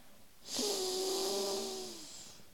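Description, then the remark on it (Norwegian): A single long, deep breath, a steady airy rush lasting about a second and a half with a faint humming tone running through it, then tapering off. No one speaks. “Og det gjør så bare pust godt inn og ut.”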